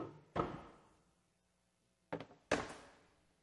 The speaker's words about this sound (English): I'm old, but I can still pick a chair up. There we go. I just want to drag you across the floor, you know.